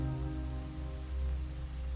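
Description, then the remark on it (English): Heavy rain pours down by a riverside under a dark sky in a steady, unbroken wash, with a dense low rumble beneath the hiss and no voices or distinct drops standing out. “It was raining heavily.”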